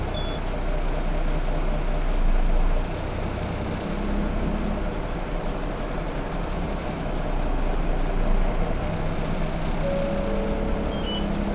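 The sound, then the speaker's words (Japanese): Steady low engine rumble and road noise from inside a moving Japanese city bus bound for Sakuragaoka 1-chome via Hirosedai 2-chome, with a deeper surge early on as it pulls away, and faint high whines and brief tonal beeps over the continuous drone. “動きます。ご注意ください。”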